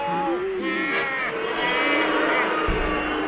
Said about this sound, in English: They're booing you, Ranger Doug.